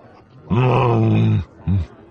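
A human voice imitates the low, soft growl of Chewbacca at a droid's retreating back: one drawn-out rumbling groan of about a second, followed by a brief second grunt, with no speech around it.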